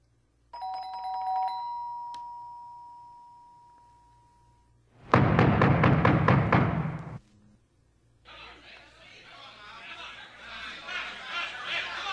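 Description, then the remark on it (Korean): A front gate doorbell at a house in Paris rings loudly with a bright chime that rings out and fades, followed by a burst of loud clattering noise and then a crowd of voices clamoring. “바로 그 순간 대문 초인종이 시끄럽게 울리더니 사람들로 요란한 소리가 들려왔다.”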